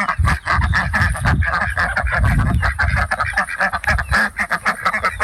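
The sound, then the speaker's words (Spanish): Farm chicks and poultry call constantly, a loud, dense chorus of overlapping honking and squawking cries, with no talking throughout. “La granja ahí, ¿eh? Los pollitos, escuchémoslos.”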